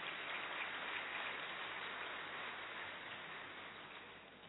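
A crowd applauds steadily to welcome a speaker, a dense crackle of many hands clapping at once that holds even for several seconds before gradually tapering toward the end. No voices are heard over it.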